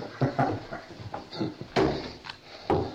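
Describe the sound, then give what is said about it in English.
A door is pushed shut indoors: a few light wooden knocks and shuffles, then a solid, fairly loud thud and a softer final clunk, with no talking. “Ok, have a seat. Shut the door.”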